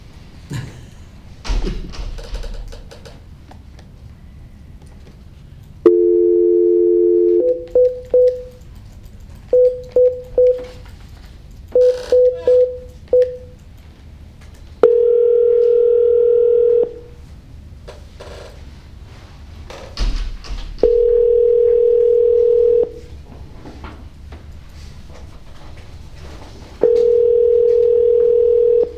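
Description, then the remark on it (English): A steady dial tone hums, then a string of short beeping keypad tones punches in a number to call a complainant during a board hearing, followed by repeated long ringing tones with pauses between, plus a few soft thumps and clicks. “Can I get the complainant on the phone?”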